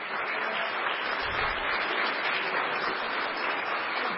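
Steady audience applause for the official photo of the agreement between Mexico's Instituto Nacional Electoral, the Asociación Mexicana de Fiscales Electorales and the Asociación de Tribunales Electorales de la República Mexicana, a dense wash of many hands clapping at an even loudness throughout, with no voices breaking through.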